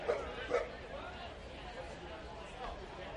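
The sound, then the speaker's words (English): Several dogs bark and yip amid a steady crowd murmur at a baseball ballpark during a game on a dog night, with two sharper barks near the start and scattered yelps afterward over the broad background noise. “And if you can't hear, it's Bark at the Park night.”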